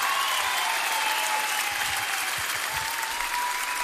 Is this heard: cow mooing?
no